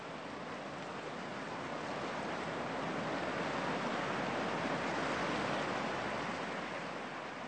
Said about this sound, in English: Sound effects are usually, but not always, sounds that are made artificially. They're not real, but sound very realistic. For example, here's a sound effect of water, which may or may not have been made at the sea.